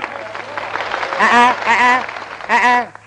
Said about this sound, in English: Not too much applause, folks.